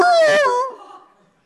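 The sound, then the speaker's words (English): A person imitates a dog with a single loud, drawn-out bark that slides down in pitch and trails off into a fading whine, with no other talking. “he could bark like a dog and make you feel like you're getting eaten alive by something”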